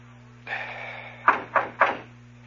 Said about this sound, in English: Okay, knock. Oh, I listened. Go on, knock.